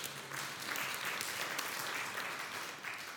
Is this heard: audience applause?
yes